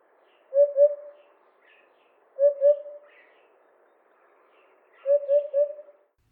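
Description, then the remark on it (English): A hoopoe gives soft, low, cuckoo-like hooting calls: three separate phrases of two or three quick hollow notes each, spaced a couple of seconds apart, with no voices and little background. “their call can be confused with cuckoo calls. It does sound kind of similar, especially the African cuckoo sounds a lot like it.”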